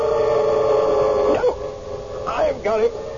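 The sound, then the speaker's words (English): A little white dog with a curly tail gives a few sharp, high yelps in quick bursts near the end, at a busy intersection, over a steady droning hum in the background. “See him? Little white dog, curly tail.”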